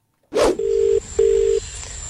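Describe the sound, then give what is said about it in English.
A brief crackly burst, then a phone line's ringing tone sounds twice in quick succession as a radio breakfast show calls a listener, a steady electronic purr heard clearly over the call line with no one talking. “And all you have to do is just when they ring you. Yeah, three rings.”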